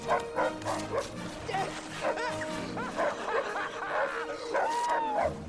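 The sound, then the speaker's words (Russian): A dog barks and yips repeatedly in quick, uneven, fairly loud bursts, with some high whiny yelps mixed between the sharper barks. “плохая собачка, фу!”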